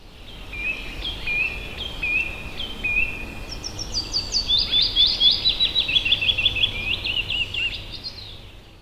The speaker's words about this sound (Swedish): Det är 15 plusgrader och sol. Fåglarna sjunger. Våren är här.